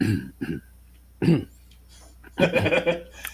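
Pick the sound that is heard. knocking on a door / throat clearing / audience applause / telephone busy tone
throat clearing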